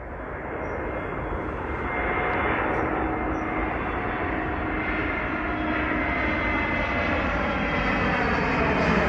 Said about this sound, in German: Eigentlich landet dieser Flieger gerade. Seinen Lärm habe ich mit dem Handy aufgenommen vor ein paar Tagen am Rande der Tappenbek. In dieser Folge soll es also um den Fluglärm in Großborstel gehen.